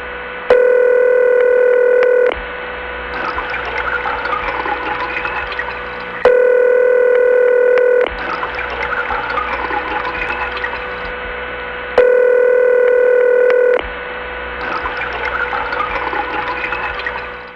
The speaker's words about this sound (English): Actually, it really is called Watertown. There aren't any particular flooded lines. High tone on ring is actually just a power supply signature that some offices have.